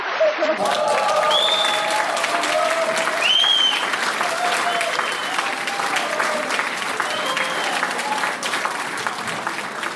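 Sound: applause sound effect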